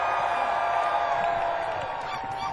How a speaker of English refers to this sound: I'd like to make a lot of noise right now for the people of Druidhill Park for letting us be here. On three, one, two, three, just scream. One, two, three, scream!